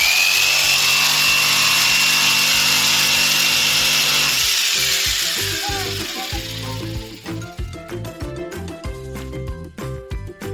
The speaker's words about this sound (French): La scie sauteuse. Voilà, tiens le morceau.